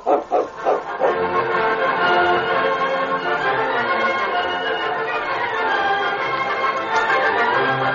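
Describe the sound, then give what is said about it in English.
The dog King barks loudly as it jumps a man, a few sharp barks at first and then a steady, agitated run of barking and yelping that lasts throughout, with no talking. “did you see the way that dog jumped him?”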